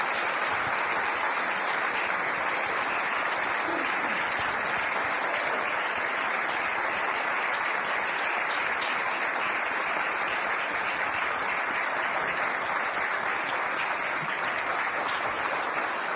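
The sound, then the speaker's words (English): A church audience applauds its coming-of-age cohort steadily, a dense wash of clapping hands that holds at an even, fairly loud level for the whole stretch without any voices breaking through. “I'm going to ask our coming-of-age cohort to come on here, and let's give it up for them once. Big round of applause.”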